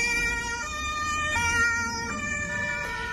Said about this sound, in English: Videos posted on social media showed police vehicles and ambulances rushing through the city streets.